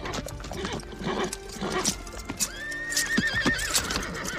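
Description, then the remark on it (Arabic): A horse, led out of its stable beside a palm tree in the sunshine, paws at the ground with heavy hoof thuds and lets out a high, wavering neigh midway through, loud against a busy outdoor background. “وقف الحصان وراح يحفر الأرض بسنابك حوافره، ثم طوى أذنيه الحادتين إلى الأمام تحت أشعة الشمس، كأن صوت حوافره وهي تضرب الأرض قد نزل على رأسه.”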